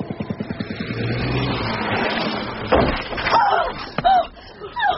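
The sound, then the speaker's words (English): A car engine rumbles and revs, then a sharp heavy thud hits as the car strikes a woman who ran out in front of it while crossing Piccadilly, followed by brief high screeching squeals and a second loud knock. “Oh, God, she ran out in front of the car.”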